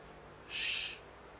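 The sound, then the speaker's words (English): A mobile phone ringtone that sounds like an owl hoot plays once during a service, a brief, moderately loud burst of about half a second over a quiet background, with no one talking. “I probably ought to turn him down or turn him off, huh? That's why I never bring my phone into the service.”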